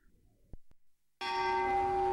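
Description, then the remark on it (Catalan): After a brief quiet pause with a couple of faint knocks, church bells suddenly ring out loudly and continuously, their rich overlapping tones sustaining without any voices. “Els del clero, amb això de les campanes, us penseu que en teniu l'exclusiva.”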